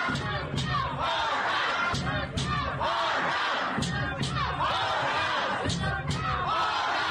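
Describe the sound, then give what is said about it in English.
A large crowd shouts and roars continuously while loud, repeated bangs and thuds strike at irregular intervals as the crowd pounds on the chamber's doors. “Here's the banging at the chamber's doors.”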